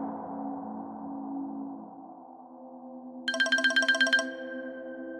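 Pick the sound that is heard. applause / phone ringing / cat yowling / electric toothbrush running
phone ringing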